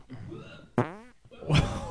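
A loud, buzzy fart lasting under half a second, its pitch wavering, followed after a brief pause by a rougher, airy burst of noise. No one speaks.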